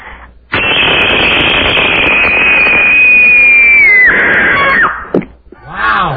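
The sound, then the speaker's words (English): A single loud, piercing scream from a woman, the final entry in a screaming contest, holds a shrill high pitch for about four seconds, wavering and dipping slightly before breaking off abruptly, followed by a brief vocal sound. “Here's our final scream.”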